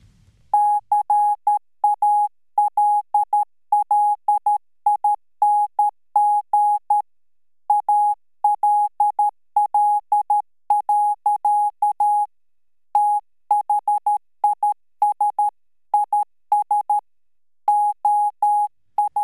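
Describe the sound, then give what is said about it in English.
A single high-pitched Morse code tone beeps out quick dots and dashes in steady bursts with short pauses between groups, clear and prominent with no voices. It is the last message the French Navy sent in Morse code, reading approximately "Calling all, this is our last cry before our eternal silence." “What you're hearing in the background is the last message that the French Navy sent in Morse code, and it reads approximately, "Calling all, this is our last cry before our eternal silence."”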